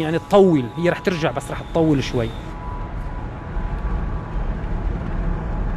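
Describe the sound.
A voice talks briefly over a low, steady rumble of an archaeologist's car driving on a road in far western Syria, about forty kilometres from the Mediterranean coast, heading to the site of Apamea; then the engine and road noise carry on alone, constant, as if heard from inside the car.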